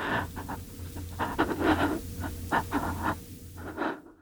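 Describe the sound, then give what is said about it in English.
A person performs nervous breathing with their voice: quick, shaky, uneven breaths in and out, with a faint steady hum underneath. “Here's a nervous breathing.”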